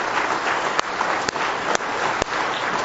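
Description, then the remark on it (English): A crowd gives a man a hand clap of praise, clapping together in a dense, sustained wash of applause, many hands striking at once with a few sharper individual claps standing out. “Let's give him one more hand clap of praise tonight if you love him.”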